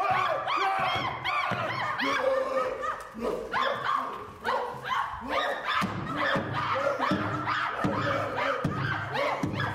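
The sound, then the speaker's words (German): Several actors on stage imitate monkeys at the end of a theatre production, overlapping in loud, continuous hoots, shrieks and yelping cries that rise and fall in pitch, with no ordinary speech. “Gibt es auf Dauer Sinn, diese Affengeräusche auf der Bühne?”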